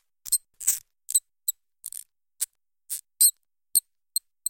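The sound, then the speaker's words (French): A mouse squeaks in a rapid series of about a dozen short, high-pitched chirps, unevenly spaced, with no voices over them. “Alors, il réfléchit et décide de rappeler la petite souris.”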